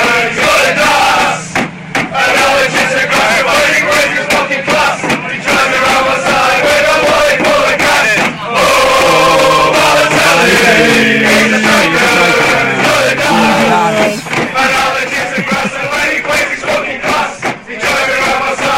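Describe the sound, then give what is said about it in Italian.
A large crowd of Manchester City football fans sings a loud, sustained chant dedicated to Mario Balotelli in unison, the massed voices rising and falling through a repeating melody for nearly twenty seconds, with brief dips between phrases. “Sono i tifosi del Manchester City, i cori dello sì del City, il coro che hanno dedicato a Super Mario Balotelli.”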